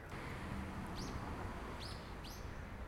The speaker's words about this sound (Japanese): いや、鳥のさえずりも聞こえました ね、 この室見川はですね、福岡市西区愛宕浜と、福岡市早良区桃地浜の境界から、博多湾に流れているという全長 15.5 キロの川でございますね